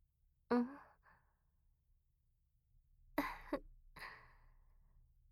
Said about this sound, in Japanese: 割と真面目なお話をしていたつもりだったのですが、あくびしちゃうんですね。